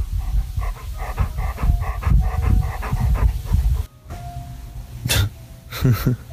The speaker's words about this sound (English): Hello, can you hear my dog breathing?